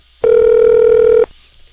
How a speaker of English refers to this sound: Pick up the phone! And it doesn't look like he is going to answer.